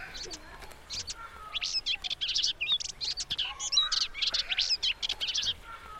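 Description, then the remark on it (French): Many forest birds chirp and sing at once, a busy overlapping chorus of quick high-pitched calls and trills that continues steadily throughout, with a faint low background hum. “Tu penses qu'il y a beaucoup d'oiseaux qui vivent dans cette forêt ? Ouais, parce qu'on en entend plein.”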